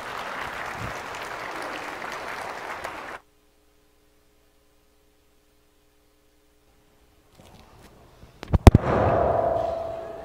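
A crowd applauds steadily, then the clapping cuts off into a quiet stretch with a faint hum. It returns with a few sharp pops before swelling into louder applause.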